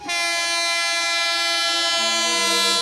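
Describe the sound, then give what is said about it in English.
A train passes on railroad tracks, its horn blaring in one loud, steady, sustained tone that drops in pitch near the end. No voices are heard. “You got the train coming in. Train, keep rolling. Hear that train coming?”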